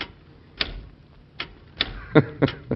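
A mechanical typewriter, being demonstrated in the White House, is tapped slowly and unevenly, about six crisp key clacks with pauses between them, and no one speaking.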